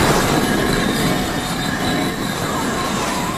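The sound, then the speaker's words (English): Bricks of a bricked-up wall slide apart to open a way through, in a loud, continuous grinding rumble that holds steady for a few seconds, with a faint high scraping squeal running over it. No one speaks. “How'd you get the bricks to slide about like that?”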